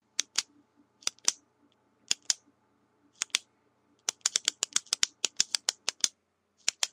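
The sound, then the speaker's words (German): Sharp mechanical clicks from a ballpoint pen, first in scattered pairs, then a faster run of repeated clicks near the end, with no one talking. “Das Knirschen, das Klicken von Kugelschreibern, die Nummer 12, Entschuldigung, hätte ich gerne einmal für dich.”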